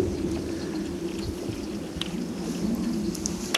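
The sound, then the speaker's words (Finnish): Ice cracking and booming on Lake Lohjanjärvi at the tip of Vilniemi, Finland, where the ice has come loose from the water: a steady low, resonant drone fills the whole stretch, broken by a couple of brief, sharp cracks near the end, with no voices. “tai eilen ainakin kuuli ihan selvästi, kun jossakin kohti jää on niin kuin irti vedestä, se kuuluu, kun se menee se railoääni, vuu, ja sitten se molskahtaa niin kuin veteen selvästi, ja sitten kuuluu se vuu, siellä veden, tai vedestä tuleva ääni.”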